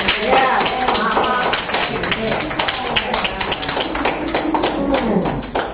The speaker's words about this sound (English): Come on, give a man a clap. That's right.